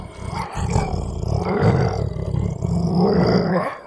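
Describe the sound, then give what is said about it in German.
A deep, sustained sabre-toothed tiger roar, rumbling low and loud for nearly four seconds in a couple of swelling surges, with no talking over it. “Das hat sich angehört wie eine Katze.”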